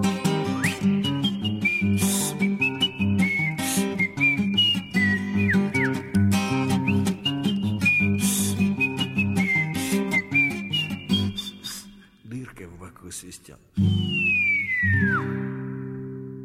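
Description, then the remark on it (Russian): A thin, high whistling tune, from a toy hedgehog whistling through a hole in its right side in a bath, runs over steady musical accompaniment, ending with a short break and a long downward-sliding whistle. No one speaks. “Об этом он Ване насвистывал в ванне дырочки в правом боку.”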